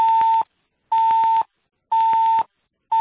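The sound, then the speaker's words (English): Loud electronic beeps repeat at a steady pace, about one per second, each a half-second steady tone followed by a short silence, with no voices. “Is that a fire drill? I hear a beeping.”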